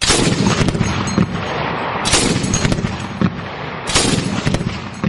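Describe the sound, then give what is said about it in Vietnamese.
Loud, continuous gunfire with dense bursts of explosive shots, swelling into heavier volleys every couple of seconds, harsh with no voices; an artillery bombardment of an airfield at night. “thì có tiếng nổ chát chúa liên tục vang lên muốn lông màng ốc.”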